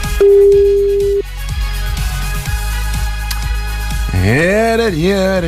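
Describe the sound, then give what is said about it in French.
A single loud, steady telephone ringback tone of an outgoing live call sounds for about a second, followed by a rhythmic thumping beat, then a voice begins speaking over it. “Attention, le téléphone sonne, c'est peut-être le vôtre et là, faut décrocher maintenant.”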